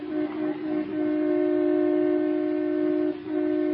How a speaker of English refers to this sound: Oh, let him honk, the big goose.